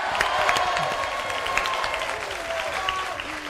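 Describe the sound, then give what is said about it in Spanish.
An audience applauds steadily for a member of the Velázquez team at a semifinal, a dense wash of many hands clapping at an even loudness, with a few brief vocal tones poking through the clatter. “al que aplaudimos así, ¿no?”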